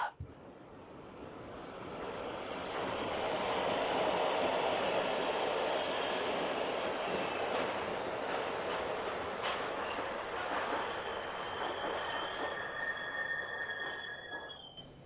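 A subway train rumbles steadily along the rails, a loud continuous roar that swells and holds, with high metallic squeals rising near the end.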